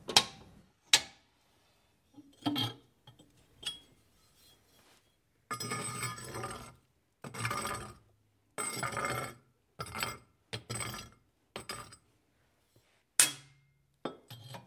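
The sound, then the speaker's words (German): Someone makes a fire in a new home on the Heitere: sharp knocks and clinks of wood and metal, then several bursts of rustling and scraping, with short pauses between. No one speaks. “Rahel Schöntal hat es gern gemütlich in ihrem neuen Zuhause auf der Heiteren. Sie macht ein Feuer.”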